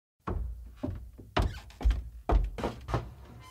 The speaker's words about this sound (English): There was a couple of seconds of silence, followed by a loud footfall as someone started moving through the bottom floor of my house.